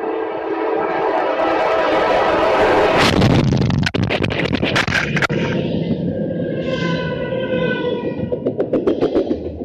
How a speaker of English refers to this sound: The thing about it is you hear the train coming and the way the audio changes as he gets flipped around. It's creepy, man.